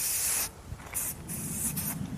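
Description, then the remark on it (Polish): Several short bursts of aerosol spray hiss loudly from a can, an insect repellent being sprayed in quick irregular pulses with brief gaps between them, and no talking. “Nie wiem, czy mikrofon psikać czy siebie.”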